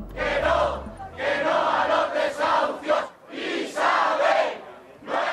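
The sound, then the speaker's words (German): Hundreds of people gathered in front of a shabby apartment block in the working-class district of Carabanchel, Madrid, Spain, shout angrily up at the facade with clenched fists in loud, surging bursts, the collective roar rising and falling in waves with brief dips between chants. “Vor einem schäbigen Wohnblock im Madrider Arbeiterviertel Carabanchel haben sich Hunderte versammelt und schreien mit geballten Fäusten ihre Wut zur Fassade hoch.”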